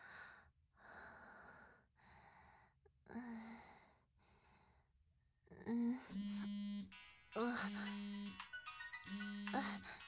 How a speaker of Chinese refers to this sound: 我的手机响了。可以帮我接吗？就摆在床头背上。直接开扩音就好。